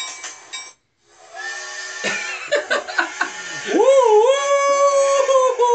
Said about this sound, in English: Did you guys hear that? No. What's that? It's a choo choo. Did you hear that? Is that a choo choo train?